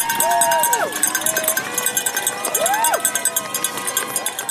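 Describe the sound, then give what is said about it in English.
A dense crowd of spectators cheers and shouts continuously, urging Marathon Monday runners up Heartbreak Hill in Newton, with high rising and falling whoops, clanging cowbells and rhythmic clapping pulsing throughout. “Or from these spectators urging the runners up Heartbreak Hill in Newton.”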